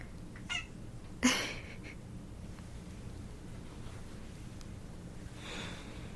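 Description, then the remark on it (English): A cat lets out a short, sharp meow about a second in, after a fainter brief sound, then the scene falls back to a quiet, steady low hum with no talking. “And the cat's proud of you too.”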